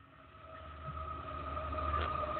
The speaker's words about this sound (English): Well, now I'm feeling the ground move because there's a train. Yes, we're still by the railroad tracks on the wrong side, but that's okay.